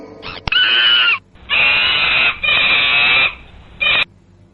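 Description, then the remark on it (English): A monkey screeches in a run of loud, shrill, close-up calls: three long piercing bursts, then a short final yelp, with no voices. “M for monkey.”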